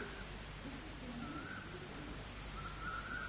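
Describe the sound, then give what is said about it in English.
Faint cuckoo calls drift through a steady hiss of outdoor background noise, the soft repeated notes barely rising above the ambience. No one speaks. “These words, this cuckoo, these trees, you and me, this moment.”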